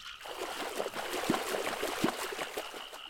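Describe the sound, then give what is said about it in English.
Continuous watery churning and trickling with a few sharper splashes breaking the surface, as fish in a farm's fish pond rush and thrash to the surface after garden pickings are cast into the water. No voices are heard. “Here, the master casts all of his garden pickings out into the pond where the fish instantly rush and splash to the surface.”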